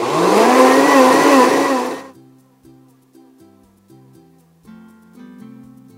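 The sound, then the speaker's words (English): A blender roars loudly in one short pulse, its motor pitch climbing for about two seconds before cutting off, leaving only soft background music; it is pulsing a warm, pan-toasted cardamom drink mixture. “And then I'm gonna pulse it in the blender.”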